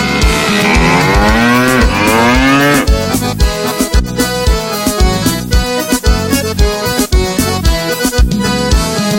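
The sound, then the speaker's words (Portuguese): A long, wavering cow moo sounds loudly for a few seconds over an upbeat band, then the music carries on alone with a steady, punchy beat. “Hoje estou arrependido, sofrendo, caído e berrando igual boi.”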